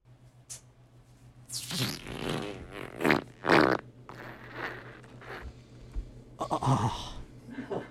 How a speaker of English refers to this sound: That one had some girth at the end. Like she was squirting something. Like she, you know when you like fart and you push a little too hard and something pops out at the end there? That's what it sounded like there.